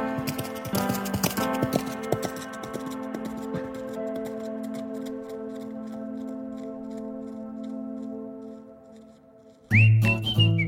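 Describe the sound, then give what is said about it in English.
Rapid, rhythmic hoofbeats of a herd of wild horses galloping on a long sliver of sand and grass in the sea patter steadily beneath a loud, sustained whistling drone, then cut off abruptly near the end as a different burst of sound takes over. “Me, my boat, the sea, the sun, sand, grass, and a herd of wild horses galloping.”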